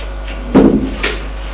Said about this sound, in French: Arrivée vers la porte du bureau, elle appuie sur le bouton. Le voyeur vert s'allume. Elle ouvre la porte et fait passer le jeune homme.